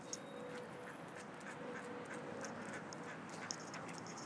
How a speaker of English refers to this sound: Ooh, ducks. How nice.